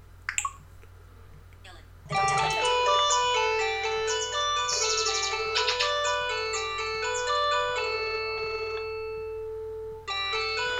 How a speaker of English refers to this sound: Okay, and my phone's ringing, so I just answer the call and say hello as usual and then hang up.